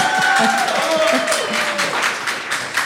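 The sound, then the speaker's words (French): A round of applause for a returning guest: many hands clapping in a steady, dense patter that holds its loudness throughout, with a few voices calling out over it. “Franchement, je pense qu'il faut encore l'applaudir pour ça.”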